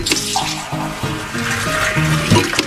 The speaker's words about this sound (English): The term soda jerk comes from a fountain server needing to pull, or jerk, a small lever in order to pour the soda.